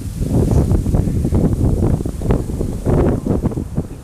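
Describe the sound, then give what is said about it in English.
Strong wind blows outdoors at the corner of Magic Way and Disneyland Drive, buffeting the microphone with a loud, continuous low rumble that surges and eases in gusts throughout, with no voices heard. “As I'm sure you can hear, it's really windy.”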